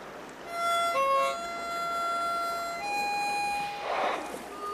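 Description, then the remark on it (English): A harmonica plays a slow run of long, held reedy notes that step up and down in pitch, steady and fairly loud with no one talking. “puts his harmonica to his lips.”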